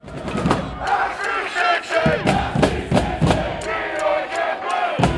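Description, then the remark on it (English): A sold-out crowd of more than 32,000 at Nippert Stadium roars, chants and sings together as FC Cincinnati takes the field against the Portland Timbers in its first home Major League Soccer match, loud and sustained, with rhythmic bursts and sharp claps punctuating a dense wall of voices. “A sold-out crowd of more than 32,000 people cheered, chanted, and sang as FC Cincinnati took the field at home for the first time in Major League Soccer.”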